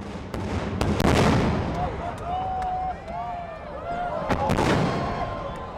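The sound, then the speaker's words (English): A huge 36-inch firework shell booms overhead at PGI's convention in Gillette celebrating its 50th anniversary, in two heavy blasts, the first rolling into a long rumble, with sharp crackling pops scattered throughout and a crowd cheering and shouting underneath. “President Paul Smith says the group wanted to make something special to celebrate its birthday, a 36-inch shell firework.”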